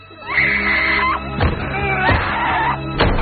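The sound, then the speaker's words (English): Heavy van doors thud shut in a few loud, blunt bangs, over a low steady engine hum, while a muffled, strained voice cries out beneath them. “A tear rolls down his cheek as the doors are closed again, and he gradually stops struggling.”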